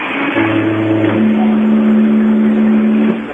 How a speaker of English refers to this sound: We will play this foghorn to let our staff know